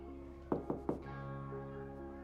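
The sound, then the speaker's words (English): Three quick, evenly spaced knocks on a hidden door disguised as a picture of shelves, crisp and fairly loud, followed by a soft sustained musical drone that carries on alone after the knocking stops. “She glances over her shoulder, then knocks.”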